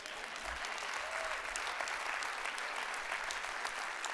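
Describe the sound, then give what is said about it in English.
Soft, polite golf clap from an audience, a steady patter of many hands clapping at a subdued level for about four seconds, with no voices standing out above it. “But if you're not a believer, you probably golf clapped on that.”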